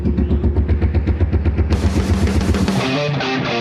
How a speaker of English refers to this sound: This is the Broken Spokes Loud Pipes Contest, where a bunch of bikes line up in the backyard of the bar and compete for best exhaust sound.